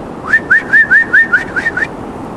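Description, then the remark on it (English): A quick run of about seven sharp, high whistled notes in a steady rhythm, fairly loud, with no other sounds around them, imitating someone whistling in a yard at about 4 o'clock in the morning while trying to find their dog. “Somebody's at my yard! And they're whistling!”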